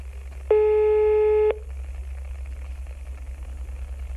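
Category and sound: signal or alarm, telephone line ringing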